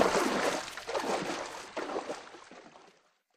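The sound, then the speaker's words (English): A crocodile runs into the water, kicking up a rush of loud, churning splashes that surge in a few waves and then fade away to silence after about three seconds. “It's a crocodile. Oh, look. It's running into the water.”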